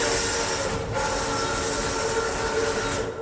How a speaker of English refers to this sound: It's a bit like that famous myth about the early movie audience that was terrified by the footage of a train coming at them because they'd never seen a moving train that wasn't actually in front of them before.